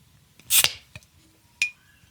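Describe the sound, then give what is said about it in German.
A beer bottle is pried open with a lighter: a sharp, hissing pop as the cap comes off, then two light clinks, the last ringing briefly with a glassy tone. No voices. “Ich mach's mit dem Feuerzeug auf.”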